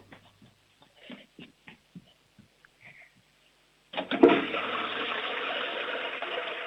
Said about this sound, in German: Du, das ist eine tolle Klospülung